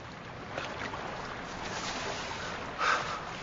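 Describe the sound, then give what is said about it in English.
A boat scrapes and slides steadily down a riverbank all by itself, because Mr. Frodo has put the ring on: a continuous rushing, grinding noise that ends in a brief louder splash as it meets the water. No voices are heard. “Ooh, what's that boat doing? Sliding down the bank all by itself.”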